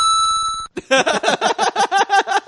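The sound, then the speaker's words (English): A retro video-game style text message notification tone: a steady buzzy electronic beep, then a quick run of about a dozen bright, warbling chiptune blips in a fast rhythm, loud. “And this could be your text.”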